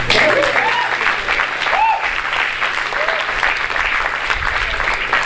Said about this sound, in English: Campus ministry is where it's at. You guys can clap.